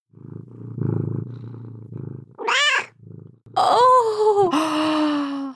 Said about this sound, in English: Leia's purring on my lap. Maybe I can get some kitty ASMR.